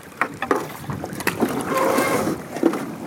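A canoe is dragged over a beaver dam in a winding, marshy river in the Northeast, scraping and grinding over a big pile of twigs and branches, with irregular cracks, creaks and rough dragging noises, building to a sustained scraping stretch near the end.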